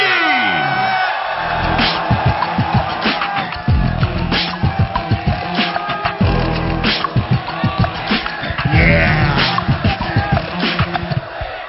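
A large crowd at the Asia Beatbox Championships in Taipei roars with cheers and scattered whoops as a beatboxer comes to the stage, a dense, loud wash of voices punctuated by sharp bursts of yelling that keeps going without pause.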